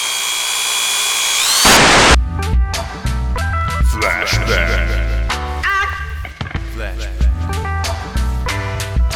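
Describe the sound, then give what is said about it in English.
A power drill whirs steadily with a high, tonal whine for a couple of seconds, then cuts into a harsh burst before busy, clattering sounds and voices take over. “Hey, what are you doing with that drill?”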